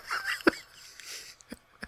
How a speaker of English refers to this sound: Bless you. Gesundheit.